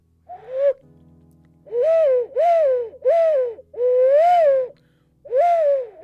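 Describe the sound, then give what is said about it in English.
An ocarina plays a string of about six mournful, hooting notes with a breathy, owl-like tone, each note bending gently up and down, with short pauses between them and no talking. “Sounds like a despondent owl.”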